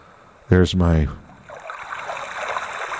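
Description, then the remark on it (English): A small sound machine plays soft, steady ocean waves washing on a shore, a continuous hushing wash at moderate volume that begins just after a brief spoken word. “there's my ebb tide, my waves gently swaying back and forth on the coast, on the shore.”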